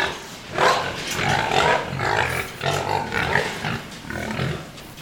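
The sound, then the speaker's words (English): Growing pigs, 12 to a pen, in a 100-foot by 34-foot pig house holding roughly 130 pigs, grunt and snuffle steadily while eating feed that has hit the floor, a dense, continuous chorus of chewing and low grunts with no pauses. “See how quiet they got? Because everybody's eating. That's why you watch the floor there. Once that feed hits the floor, they get quiet.”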